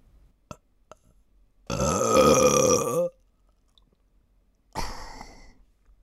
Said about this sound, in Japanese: 急にゲップされてびっくりした？それとも急に耳元でゲップされて興奮しちゃったかな？